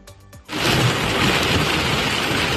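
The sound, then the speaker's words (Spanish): After a brief tonal lead-in, a loud, steady downpour of heavy rain from a thunderstorm roars in, a dense continuous hiss with a deep stormy rumble beneath, relentless. “Un fenómeno meteorológico que deja fuertes tormentas, lluvias torrenciales y mucho viento y que, por desgracia, cada vez más a menudo en el Mediterráneo, lejos de la época habitual de la gota fría que es el verano.”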